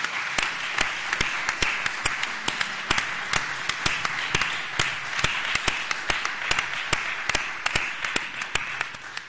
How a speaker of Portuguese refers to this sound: Para él sí que quero pedirvos tamén ese aplauso de agradecimento